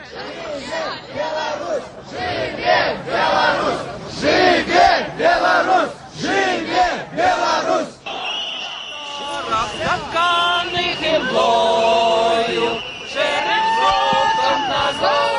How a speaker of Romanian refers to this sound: Sute de protestatari au petrecut o a treia noapte de ger în piața Octombrie din Minsk, cântând, dansând și ascultând discursuri ale liderilor opoziției.